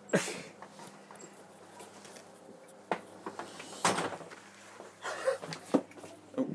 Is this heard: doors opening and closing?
yes